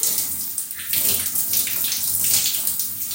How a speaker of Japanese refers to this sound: 使う前に一応洗いたいなと思ってます。あ、よいしょ。ペットシャワーの音がついてる。